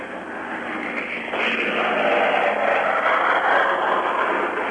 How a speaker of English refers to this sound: It's a remarkable sight and a thrilling sight to watch these B-29s take off. And it's one of the most impressive things I've ever seen.